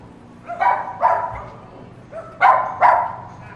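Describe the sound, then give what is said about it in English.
A dog sitting in front of a doorway barks four times in two quick pairs, the sharp, moderately loud barks separated by short pauses, with no voices around them. “A dog sits in front of a doorway.”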